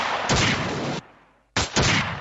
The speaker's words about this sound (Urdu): Compound کے قریب پہنچنے پر جب عسکریت پسندوں کو ان کی موجودگی کا علم ہوا تو عسکریت پسندوں میں سے ایک کو کمپاؤنڈ میں جاتے دیکھا گیا، جس کے فوراً بعد گولیوں کی آوازیں سنائی دی.